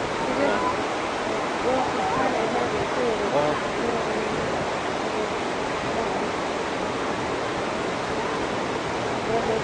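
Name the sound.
ocean waves and surf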